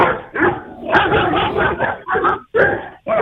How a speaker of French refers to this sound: J'en ai marre de ces chiens. J'en ai marre de ces chiens. Je vais essayer de passer devant chez eux, vous allez entendre. Voilà, là, je vais passer devant chez eux, là.